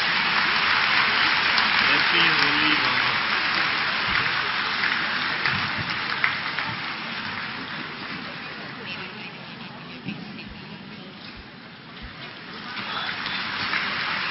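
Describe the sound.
Sustained applause from a large crowd at a presentation of flower bouquets, a dense steady clatter of clapping that carries on throughout, easing slightly toward the end before swelling again, with faint voices underneath.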